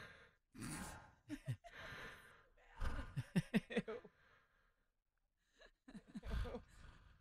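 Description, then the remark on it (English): A voice imitates a woman's heavy mouth breathing at a spa, with a slight awake-snore rasp, several breathy inhales and exhales in a loose rhythm, fairly loud, with a short pause before one last long breath. “She had that slight awake snore.”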